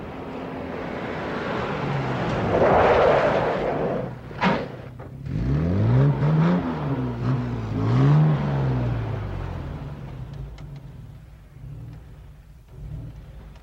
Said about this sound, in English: On a country road, a man drives a convertible and pulls into a service station.